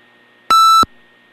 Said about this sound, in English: My apologies for beeping. It was an exciting phenomenon.